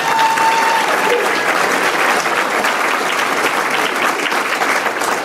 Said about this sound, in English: Can we give her a round of applause again?